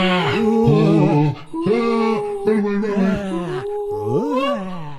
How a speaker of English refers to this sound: The troop's appreciation of the beauty of the universe was broken up when dozens of ghosts began screaming, howling, flying, and roaring straight at them.